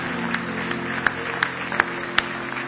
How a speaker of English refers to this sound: Give Him one more hand clap of praise this morning. Hallelujah. Somebody say praise the Lord. Oh, give Him another good hand clap of praise. Hallelujah.